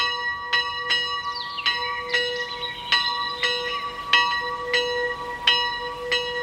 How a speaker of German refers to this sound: Wir beginnen unsere Gedankenwanderung über den Gernsbacher Sagenweg an der Klingelkapelle. Klingt komisch, aber ist tatsächlich eine Kapelle, die klingelt.